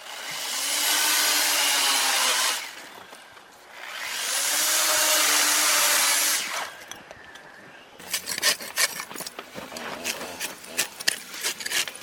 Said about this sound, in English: Ice artists use everything from massive chainsaws to grinders and tiny chisels to turn simple ice blocks into dazzling forms.